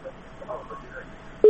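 signal or alarm, telephone line tone

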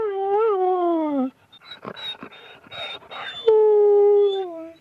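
animal, small dog whimpering

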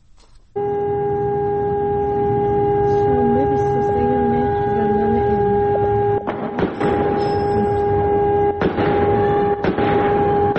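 signal or alarm, siren wailing

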